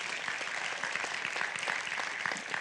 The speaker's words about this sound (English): Will you give these two ladies again one round of applause, another round of applause?